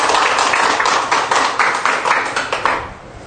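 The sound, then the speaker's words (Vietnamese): A crowd applauds loudly and steadily to celebrate the feast day of Saint John Bosco on 31 January, many hands clapping in a dense patter that gradually thins and fades away near the end. “Trong tâm tình hiệp thông, xin một tràng pháo tay thật lớn để chúc mừng.”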